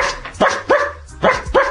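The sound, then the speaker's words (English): A person imitates a dog barking, giving four short, loud woofs in two quick pairs, each a sharp voiced burst with brief pauses between. “And what I would make people do is actually bark like a dog.”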